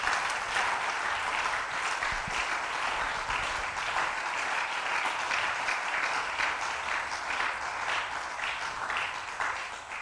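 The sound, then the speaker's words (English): An audience claps their hands in steady, dense applause that holds for about ten seconds, loud and continuous with no speech over it. “I think you should be clapping your hands over there.”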